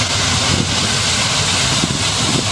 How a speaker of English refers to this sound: You can hear the jet. The big one. And they are close. People are literally leaving their feet.